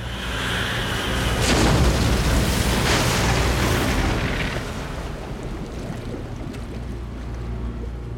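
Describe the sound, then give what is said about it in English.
Heavy crashing and booming over surging water as the ocean cracks a boat in two at sea and it sinks into the deep, with several loud cracks in the first seconds before settling into a steady, deep watery rumble. “Under Merlin's command, the ocean cracked the boat in two. It sank into the deep, the water swallowing the baby's helpless cries.”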